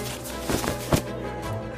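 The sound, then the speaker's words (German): Soft rustling of large silk dresses, a few brief swishing bursts, heard over a faint, steady low musical hum, with no one speaking. “Das sanfte Rauschen von riesigen Kleidern aus Seide?”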